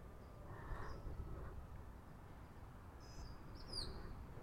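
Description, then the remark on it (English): A mockingbird on a street sings a few short, scattered phrases during a walk, faint, over a steady low rumble of outdoor background noise. “There's several mockingbirds on our street. This one's the most prolific singer.”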